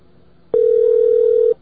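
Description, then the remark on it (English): A single steady telephone tone sounds loudly for about one second at a mid pitch, then cuts off abruptly, with only a faint hiss before and after, as numbers on a campus phone system are dialed. No one speaks. “There's all kinds of numbers on campus. You just keep dialing.”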